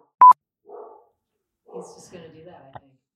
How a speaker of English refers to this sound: Oh, see, there's Yolo barking.